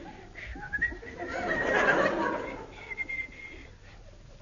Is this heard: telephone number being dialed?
no